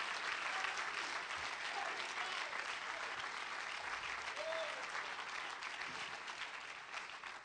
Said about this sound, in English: You love him, clap your hands into him and bless his name.